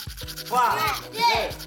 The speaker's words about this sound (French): Donc, attrape ta brosse à dents, ton dentifrice, et tu frottes. Jusqu'à ce que l'histoire soit terminée.